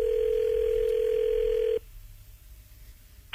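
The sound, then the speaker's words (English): A steady, loud telephone dial tone, heard as a call is placed, hums at one even pitch for nearly two seconds, then cuts off abruptly, leaving only a faint low line hiss. “Let's give them a call again here.”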